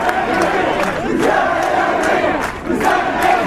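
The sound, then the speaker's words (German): A crowd of demonstrators in central Tunis chants a slogan demanding the fall of the 2018 finance law in loud, rhythmic unison, the massed voices rising and falling in repeated phrases with sharp accented bursts. “Das Volk fordert den Sturz des Finanzgesetzes, auch das ein Sprechchor der Demonstranten.”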